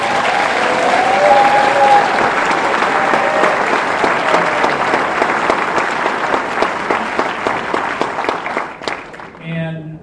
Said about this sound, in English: there are a number of public servants that are out there, and certainly our law enforcement and our first responders, they miss birthdays, anniversaries, a lot of times serving their communities. Would y'all give them a round of applause?